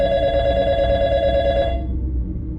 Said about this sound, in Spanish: Cuando dieron las 3 de la mañana, el teléfono sonó.